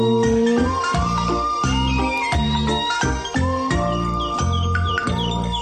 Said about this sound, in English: You know, no, they're the nice birds.